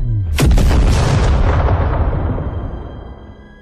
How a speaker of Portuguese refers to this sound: Foi então que me lembrei da trava de emergência acionada pelo computador central. Eu corri e acionei a trava, enquanto os três tentavam puxar o cabo de alimentação. Mesmo com todos os esforços, a explosão ocorreu.